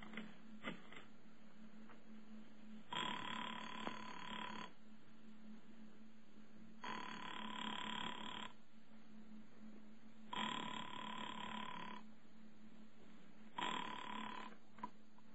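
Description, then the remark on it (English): A few quick clicks of a phone being dialed, then four long, evenly spaced rings with pauses between them, heard clearly down the line with a faint steady hum underneath and no voices. “knowing how foolish it was, knowing it, went to the phone and dialed.”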